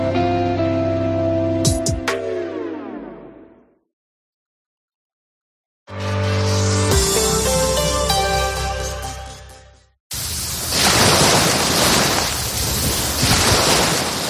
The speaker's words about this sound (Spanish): Ese sonido del mar, claro, porque justo estamos al borde del mar Mediterráneo. Estoy en ese punto donde la ola choca contra la arena. Me encuentro en la población de Vilassar de Mar, en la provincia de Barcelona, en la zona del Maresme.